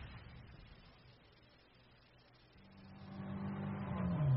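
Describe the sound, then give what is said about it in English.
A car engine idles low, then revs up and grows steadily louder as the vehicle pulls away, its rising engine tone building over the final couple of seconds. “Where did you leave the car?”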